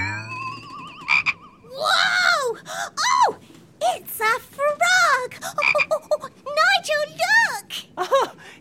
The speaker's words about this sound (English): We don't usually get frogs out at sea.